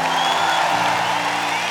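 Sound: audience applause and cheering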